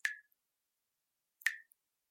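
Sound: dripping tap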